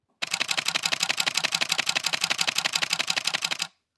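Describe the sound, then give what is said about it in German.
A Canon 7D DSLR shutter fires in a rapid continuous burst, about seven to eight crisp mechanical clicks per second for roughly three and a half seconds, loud, then stops abruptly with no talking. “Oder 7,8 Bilder die Sekunde einer Canon 7D.”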